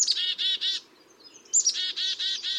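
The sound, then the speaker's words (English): Black-capped chickadees give a run of buzzy, repeated 'dee-dee-dee' notes, pause briefly, then call again with a sharp introductory note and another string of dee notes, clear. “Even birds who visit backyard feeders, like these black-capped chickadees, need a healthy mix of seeds, berries, and insects, often found on the native plants that we villainize as weeds when they grow on our lawns”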